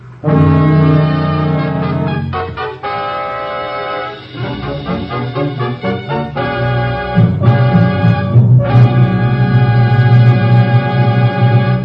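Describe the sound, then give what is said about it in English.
The NBC chimes, rendered as loud, sustained organ-like chords rather than struck bells, shifting through several held notes over about twelve seconds, with a wavering stretch in the middle and no voices. “Chimes mean good times on NBC.”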